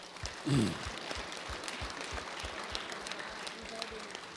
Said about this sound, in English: And the way we're going to do this is, if you're in agreement to this, let's give her applause for a membership.